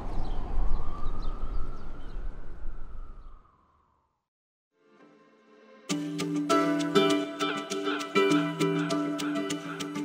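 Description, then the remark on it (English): Ambulance sirens wail over loud street rumble in front of Bellevue, one ambulance after another headed for the ER, fading as they drop in pitch while passing, then cut to silence before music begins. “While I was doing my interviews in front of Bellevue, I stood in that little concrete park and looked across the street, and I could see the tent in front of Bellevue, and one ambulance after another going by, headed for the ER.”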